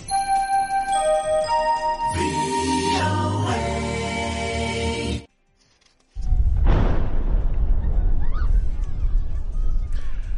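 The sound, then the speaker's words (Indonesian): A short musical sting, a brief silence, then a large, loud explosion from an Israeli airstrike in Khan Yunis, southern Gaza, bursts in, followed by several seconds of deep rumbling roar and scattered debris-like crackle. “Sebuah ledakan besar terdengar di kota Khan Yunis, Gaza Selatan, setelah serangan Israel di daerah itu menewaskan sedikitnya 7 warga Palestina Rabu malam hingga Kamis.”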